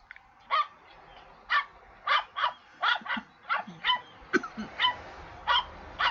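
dog barking

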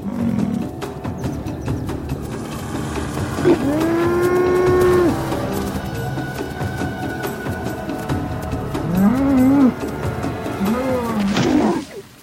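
cow mooing

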